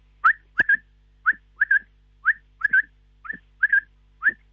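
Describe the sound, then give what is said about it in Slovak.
A common quail, hidden in tall grass, calls over and over, a liquid three-note whistle: one short note, a pause, then two quick notes. The phrase repeats about four times at a steady pace, with no talking. “Je prepelica polná.”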